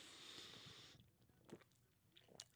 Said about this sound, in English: I'm drinking a fine Tecate. I'm going to take a sip of the first sip of the second beer of the day.